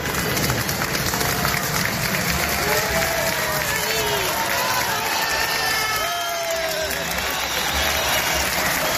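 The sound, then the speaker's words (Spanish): A crowd in the square at Pamplona City Hall applauds the arriving Bildu representatives, led by Laura Aznal, before a censure motion; dense clapping blends with cheers and scattered shouted voices rising and falling over a constant roar of noise. “Así aplauden a su llegada a los representantes de Bildu, con Laura Aznal a la cabeza.”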